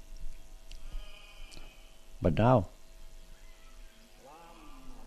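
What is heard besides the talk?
sheep bleating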